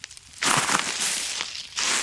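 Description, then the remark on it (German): Footsteps crunch through dry beech leaves in a deciduous forest: two loud, crackling steps, the first longer and rustling, the second starting near the end, with no voices. “Und wie ihr hört an meinen Schritten, befinden wir uns in einem Waldlaub.”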